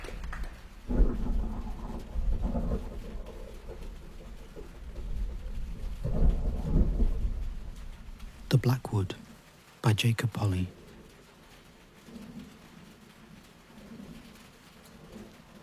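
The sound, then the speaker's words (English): Steady rain drums on an old tin roof with a dense, hissing patter, broken by heavier crashing bursts and low rumbles like thunder, while a man speaks briefly near the start. “Rain falling on this old tin roof, chucking down a heap of 1988.”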